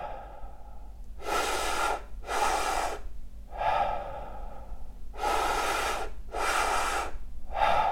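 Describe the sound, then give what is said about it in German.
Slow, deep breaths taken lying down as a breathwork exercise, each long inhale into the belly and chest followed by a full, airy exhale, repeating in a steady rhythm with short pauses between. No one speaks. “Okay, in den Bauch, in die Brust und loslassen.”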